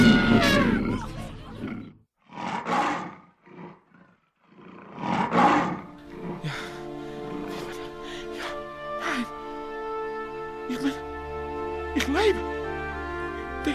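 A tiger roars in several deep, rumbling bursts, loud at the start, followed by longer growling, drawn-out sounds with sharp accents toward the end.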